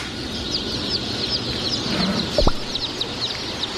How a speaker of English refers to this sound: So there are millions and millions of chicks here at the Murray McMurray Hatchery